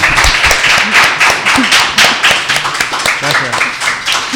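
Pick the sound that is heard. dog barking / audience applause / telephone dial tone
audience applause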